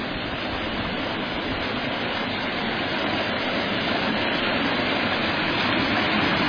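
A wide creek rushes steadily and loudly, a dense continuous roar of moving water with no pauses, holding an even level throughout with no voices.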